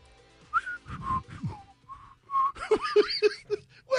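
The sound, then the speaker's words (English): A person whistles a short, breathy tune: a few higher sustained notes, then a quick run of four or five lower, choppy notes with audible air between them. “Did you hear how beautiful my whistle was?”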